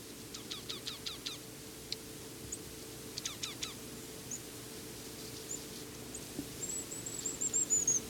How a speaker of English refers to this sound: Chickadee's giving high whistles. Still foraging though.